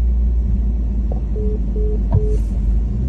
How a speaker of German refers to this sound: Ich drücke auf die Bremse, auf das Gas.